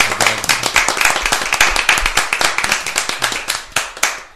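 A burst of lively applause from a group of people for a volunteer with the Fundación Integra who received an award presented by Ana Botella, many hands clapping in dense, overlapping rhythm, sustained throughout without any talking.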